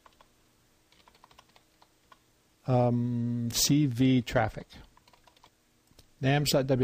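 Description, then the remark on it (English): Soft, quick typing on a computer keyboard, entering a web address into a chat box, clatters for a couple of seconds, a rapid patter of light clicks, before a man starts talking loudly over it. “I'm typing it in the chat box.”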